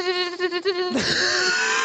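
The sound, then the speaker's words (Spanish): A voice imitates a mosquito with a steady, nasal, high buzzing hum that wavers slightly for about a second, then dissolves into a breathy, noisy burst that sounds like laughter. “El mejor mosquito que escuché.”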